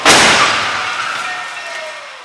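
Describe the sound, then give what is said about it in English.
The redesigned X1 car slams into a barrier in a crash test after being dragged up to 40 miles per hour, with 39 sensors recording data: one sudden, loud crunching impact, then a long metallic ringing and scraping that slowly fades over about two seconds. No one speaks. “Destroying this car in the hopes that maybe its next incarnation can be even safer.”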